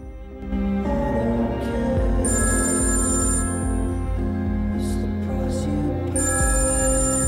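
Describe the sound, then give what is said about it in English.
A mobile phone ringtone plays loudly and steadily for several seconds, its bright electronic tones repeating over a thick musical backing, with no voices present; an incoming call on a phone in the darkened, deserted Wyvern coffee shop. “Sitting alone, he keeps staring at his phone when suddenly it rings and the caller's name appears on screen.”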